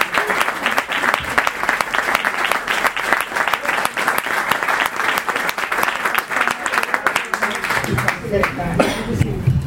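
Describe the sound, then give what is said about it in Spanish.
Sustained applause from a full small hall for community base groups and an invited guest, dense overlapping claps filling the room at a steady loud level, with a few voices surfacing near the end as it tapers. “Así que pues muchas gracias a todos, y para que los oyentes calibren más o menos, que la sala está llena, la sala es pequeñita, pero cabe mucha gente aquí dentro, pues vamos a dar ese aplauso a las comunidades de base y a nuestro invitado.”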